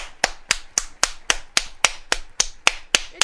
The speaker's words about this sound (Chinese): 谢谢你们，非常感谢。给他们一个鼓掌。